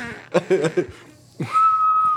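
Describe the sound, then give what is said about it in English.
A few quick chuckling bursts, then a voice swoops up into a long, steady, high-pitched tone that mimics a blown dog whistle and holds it to the end, fairly loud. “He blew a dog whistle.”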